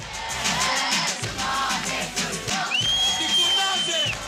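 A large crowd of Kurdish concertgoers at a rap concert in Diyarbakir, southeastern Turkey, sings along together to the rapper's song, a dense wash of many voices over a steady, thumping low beat, with a high sustained whistle-like tone cutting in during the second half.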